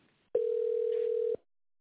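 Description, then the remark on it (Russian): A single steady, clear telephone ringback tone sounds for about a second, a flat mid-pitched beep with faint line hiss around it and no voices, heard while a call to the company Robotbaza is being put through to its managers. “Звонок уже идет нашим менеджерам. Ожидайте, пожалуйста.”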